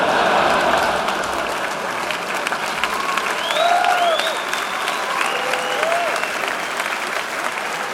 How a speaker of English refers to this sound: Yeah, clap it up.